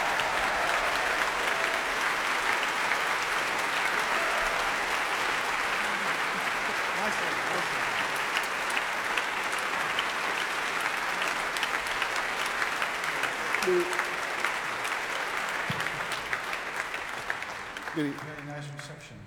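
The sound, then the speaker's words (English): A large audience at the Royal Albert Hall applauds Dutch composer Louis Andriessen as he walks on stage, in a dense, steady roar of clapping that holds strong for nearly twenty seconds before thinning out and fading at the end. “A round of applause, please, for one of our greatest living composers, Louis Andriessen.”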